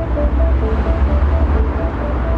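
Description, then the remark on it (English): Traffic rushes along a road in a steady, dense roar with a heavy low rumble and faint whining tones, continuous and fairly loud, with no voices. “The road you drive.”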